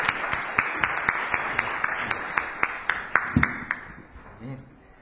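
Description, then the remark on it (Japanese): An audience applauds together to praise God at an Easter morning worship service, sharp claps landing in a steady beat over a dense wash of scattered clapping, holding strong before tapering off toward the end. “私たちも大きな拍手を持って神様を賛美しましょう。”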